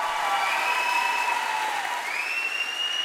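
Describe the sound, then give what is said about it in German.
An audience applauding the Sailor Moon show group Tanze nicht synchron, a dense, even wash of clapping at constant loudness throughout, with a few faint high-pitched whistles or squeals gliding over it. “Nochmal einen ganz super riesengroßen Applaus, bitte.”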